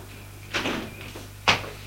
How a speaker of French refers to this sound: On frappe à la porte.